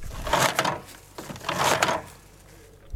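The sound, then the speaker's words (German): Paper towel being pulled from a dispenser twice, each a brisk rustling, tearing swish lasting under a second, with a short pause between and a faint click at the end. “Das war das Herausziehen von Papier aus einem Papierspender.”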